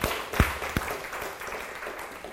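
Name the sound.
audience clapping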